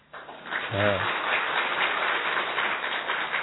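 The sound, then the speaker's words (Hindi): Loud, sustained applause from a crowd, a dense wash of many hands clapping at once that holds steady throughout, with a brief tonal voice-like sound near the start. “तो आप सोच सकते हैं किसको ताली भी बजाना हो थोड़ा जोर से बजाओ।”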